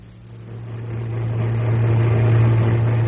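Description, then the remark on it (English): A car engine hums steadily, its low drone gradually growing louder and fuller as the vehicle revs and pulls away, with no voices present. “Strip, get in the car, quick.”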